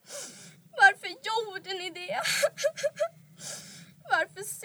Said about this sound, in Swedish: Gråt inte över dem, lilla vän. Även om det känns som om ditt hjärta skulle brista.